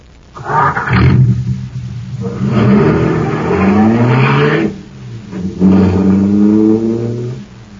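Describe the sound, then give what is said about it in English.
A loud supercharged car engine roars and revs in three surging bursts, its pitch climbing and dipping with each push, with brief lulls between and no talking. “Boy, that cosmic surface car is really roaring.”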